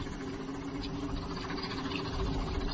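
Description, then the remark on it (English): A steam engine rushes past at speed, a steady, loud mechanical roar with a low droning hum and a rumbling undertone that holds constant throughout, with no voices. “It's a steam engine and travelling at speed.”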